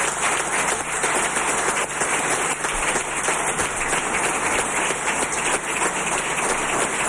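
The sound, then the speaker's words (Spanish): A crowd applauds Sergio Gutiérrez at the PSOE regional headquarters in Santa María la Blanca, Toledo, steadily for several seconds, a dense, even wash of many hands clapping at once with no pauses and no voices over it. “Los aplausos a Sergio Gutiérrez aquí en la sede regional del PSOE en Santa María la Blanca, en Toledo.”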